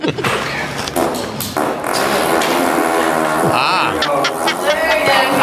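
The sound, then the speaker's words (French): A long, loud fart sound effect of a large animal rasps and flutters continuously for several seconds, its buzzy tone wobbling in pitch with a few sharper sputters along the way. “Ça, c'est Luc Cochon.”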